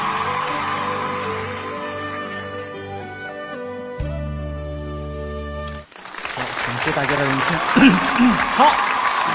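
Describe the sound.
A sustained musical passage fades out, then an audience breaks into loud, dense clapping that fills the last few seconds, with a few scattered voices and cheers mixed in.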